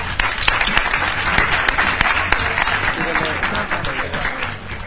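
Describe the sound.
Steady, dense applause from an audience, many hands clapping at once in a loud continuous wash that holds for the whole stretch, with faint voices mixed in underneath.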